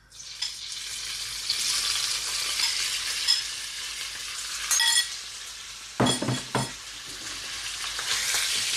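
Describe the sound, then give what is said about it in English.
Bite-sized chicken pieces sizzle steadily in hot, shimmering oil in a pan, a bright crackling hiss that swells at moments, with a few sharp clinks of a utensil against the pan near the end. “So I'm going to pop my chicken into the pan. You should hear a nice sizzle.”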